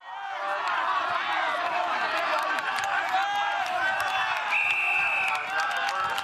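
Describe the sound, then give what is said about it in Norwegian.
A referee blows one sustained, shrill whistle blast, about a second long, over the steady roar and chatter of a large crowd that fills the whole clip. “Ja, så det blåsing I fløyte. Blåsing I fløyte. Det en dommer der, altså.”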